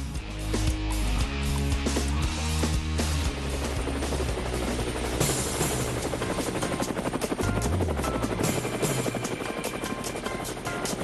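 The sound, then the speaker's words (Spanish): Helicopter rotor blades chopping steadily and loudly for about eleven seconds, a dense rhythmic thumping with a whining engine layered on top, no voices. “Bueno, llegó siempre las aspas del helicóptero que realmente alegran.”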